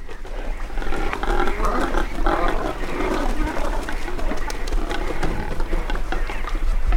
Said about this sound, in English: He wrote that they eat and defecate, quote, inordinately, and have no song to charm, only grunts. These are cormorants near South Manitou Island. They're nesting on a shipwreck, partially out of the water.